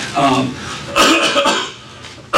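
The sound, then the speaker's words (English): Coughing and throat clearing: a raspy throat-clear, then a couple of harsh coughs, a brief pause, and one more short cough cutting in at the end. “I know why I keep on getting coughed up.”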